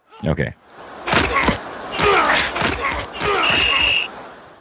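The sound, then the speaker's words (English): A football game in full swing: repeated heavy thuds and tackling body impacts mixed with shouting voices, then a sharp, sustained referee's whistle near the end. “Okay, so we got a whistle there. We got a lot of tackling.”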